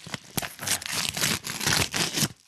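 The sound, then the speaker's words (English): Crisp crinkling of an Idaho Spud candy bar wrapper being pulled open, a steady run of irregular crackles and rustles with a couple of sharper snaps, no voices. “I didn't open mine yet. I'm going to do a little ASMR.”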